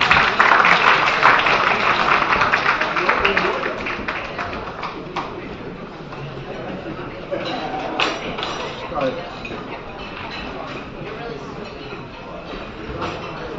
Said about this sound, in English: Why is everybody clapping? I didn't say anything.